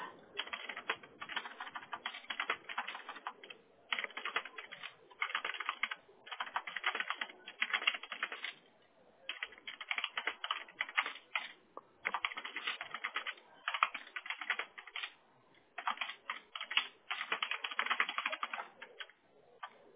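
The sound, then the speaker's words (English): Rapid, continuous typing on a computer keyboard as someone types up notes, in steady bursts of clattering keystrokes with brief pauses between runs, and no one speaking. “Let me just notate this here, Nancy, real quick.”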